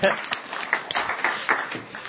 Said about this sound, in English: Yeah, give him a clap. Why not?